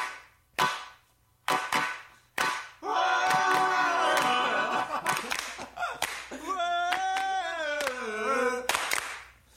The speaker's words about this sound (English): Hold a second, just the hand claps.